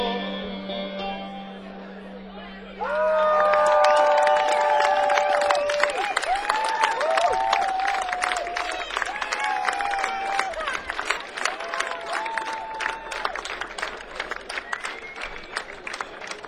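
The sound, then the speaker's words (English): A held sung note ends, then an audience bursts into sustained, dense clapping that continues steadily to the end, with scattered whoops and cheers rising above it. “Thank you for clapping.”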